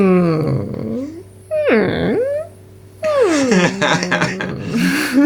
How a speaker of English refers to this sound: And he has a trademark, they describe it as a whimper in the film, but I don't know, is it that?